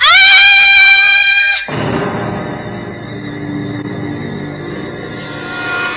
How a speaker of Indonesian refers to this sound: Andini ketakutan. Dia tidak bisa menahan rasa takutnya. Dia berteriak, menjerit, hingga kemudian dia pingsan tergeletak di lantai.